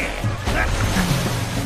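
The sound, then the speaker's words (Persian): A boat, the wolf boat, moves across water with a steady low engine rumble and a broad wash of splashing, churning spray, continuous throughout. “افراد حالا قایق گرگی.”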